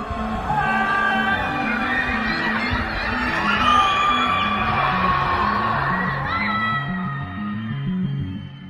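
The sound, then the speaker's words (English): Many Shanghai residents under COVID lockdown yell, whoop and scream at once from their windows and balconies in protest, echoing like shouts carried between buildings, with a steady rhythmic clatter of banging underneath throughout. “And some have taken to protesting against the measures from the confines of their homes, screaming and shouting from their windows and balconies.”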